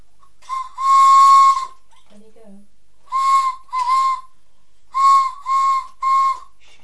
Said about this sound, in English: That's my whistle.